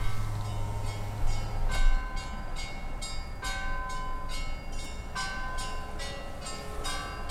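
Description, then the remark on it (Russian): Bells ring out with several strong, resonant strikes a couple of seconds apart, their tones hanging and fading, over a steady wash of ocean surf. No one speaks. “Надеюсь, вам слышно звук прибоя и колокольный звон.”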